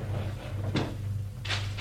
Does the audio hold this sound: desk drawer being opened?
yes